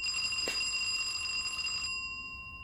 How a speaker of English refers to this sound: presses the bell of her lover's apartment.